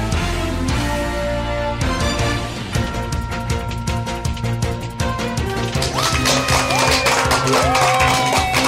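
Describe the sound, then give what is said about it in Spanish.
A crowd applauds steadily and loudly throughout, dense clapping with sharp irregular claps, while sustained tonal music plays underneath. No one speaks. “Y con esa energía positiva y esos aplausos damos inicio a este episodio número 173 del programa Te Invito a un Café.”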